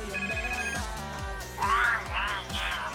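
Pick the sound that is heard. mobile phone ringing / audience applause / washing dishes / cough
mobile phone ringing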